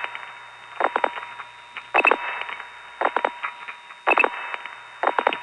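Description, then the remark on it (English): Telephone switchhook flashing on a call routed through the Peekskill Goody Tandem from a crossbar 5 exchange: short clusters of sharp clicks repeat about once a second, five bursts in a row, over a faint steady line hum with no talking. “Let me flash a few times, first of all.”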